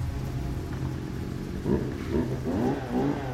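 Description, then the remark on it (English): A chainsaw runs with a steady, rough low buzzing drone, its engine surging and revving in several bursts during the second half, heard while ballrooms are being set up. No one speaks. “That is not a power vac, that's a chainsaw.”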